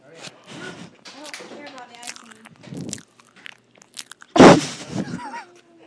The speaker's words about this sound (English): Okay, go ahead and take a bite. And let's hear it. You need a new bite. Chew with your mouth open.